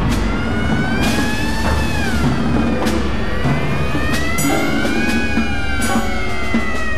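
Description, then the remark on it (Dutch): Wailing sirens rise and fall continuously over a dense bed of snare drums and sharp percussion hits, loud and busy throughout, with no voices, in a piece of music composed in 1930. “Als je sirenes, snaartrommels en percussie bij elkaar gooit, dan krijg je wellicht iets als dit.”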